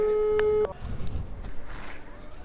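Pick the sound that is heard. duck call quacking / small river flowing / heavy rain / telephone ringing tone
telephone ringing tone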